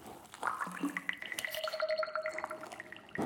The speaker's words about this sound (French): Oh, ça fait plein de bulles. Regarde cette petite-là. Elle est belle. Et celle-là.